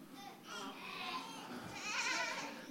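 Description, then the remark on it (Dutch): A human voice imitates sheep bleating: a few drawn-out, wavering 'maa' calls in quick succession, moderately loud, with no other sounds around them. “En allemaal schapen, maa, maa, maa.”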